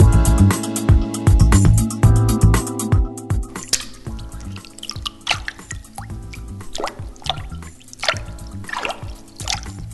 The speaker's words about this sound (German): Ratet, was ihr gerade gehört habt. Das war ein Waschbär, der am Wasser geplätschert hat.